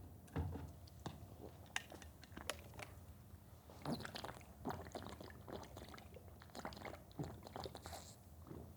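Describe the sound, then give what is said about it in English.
Someone takes quiet sips of water, with soft slurps, wet mouth clicks and gulps scattered irregularly over several seconds, and no talking. “Take a sip of water.”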